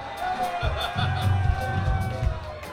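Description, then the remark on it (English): A crowd screams steadily, many high voices blending into one sustained, loud wash of noise, with low thumps pulsing underneath throughout. “I haven't heard one single thing we're planning on doing, so keep screaming.”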